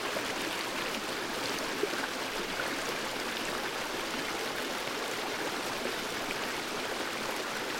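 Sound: flowing stream water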